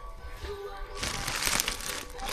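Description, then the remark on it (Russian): Crinkling plastic packaging of hard candies rustles, starting quietly and turning into a dense, crackly burst of handling noise about halfway through, with faint background hum. “Леденцы, друзья.”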